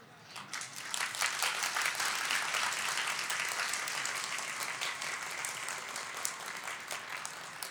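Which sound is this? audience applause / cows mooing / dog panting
audience applause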